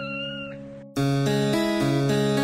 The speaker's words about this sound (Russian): И в самом деле оказалось, что это просто котенок.